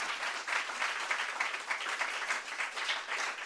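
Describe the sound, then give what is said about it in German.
Steady applause from a church audience thanking its volunteers, a dense wash of many hands clapping at once, sustained and fairly loud throughout with no talking over it. “Lass uns mal einen Applaus geben.”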